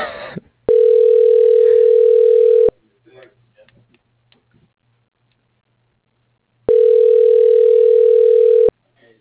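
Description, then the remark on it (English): A telephone ringback tone on an outgoing call: two long, steady electronic rings, each about two seconds, separated by a pause of a few seconds with faint background noise. “Wait, what did hold on, wait till I finish this call.”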